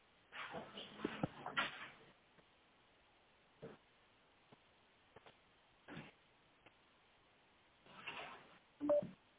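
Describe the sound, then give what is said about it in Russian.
A phone number being dialed on a second telephone: scattered short key presses and faint tones with bursts of handling clicks, spread irregularly over several seconds, sounding thin as if over a phone line. “Повисите, я могу позвонить, спросить, конечно, по другому телефону.”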